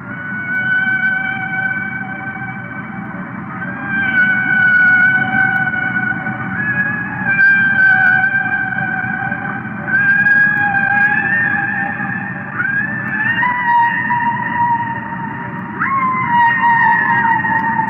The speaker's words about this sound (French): C'est des baleines.